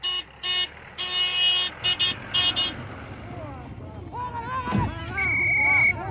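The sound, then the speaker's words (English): A bus carrying a sports team rumbles along the road on the final stretch of its trip as its horn gives a quick series of loud toots, followed by people chatting and calling out over the steady engine noise. “With dinner cooked, it's back on the bus for a feed and the final stretch.”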